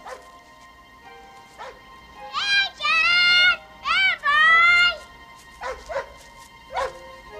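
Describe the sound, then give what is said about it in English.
A dog on a hill on the far side of a yard barks several times, loud: a couple of short yips, then two long, drawn-out howling barks, followed by a few quicker, fainter barks. “I know that bark. It is him.”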